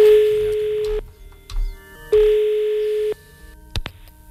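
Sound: telephone busy tone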